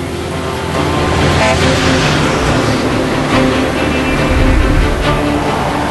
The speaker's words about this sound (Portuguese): Contou as rodas? 128 pneus. São os trens de estrada, comboios de caminhão com quatro caçambas, na maioria carregadas de minério de ferro. Nenhum lugar do mundo tem tantos deles.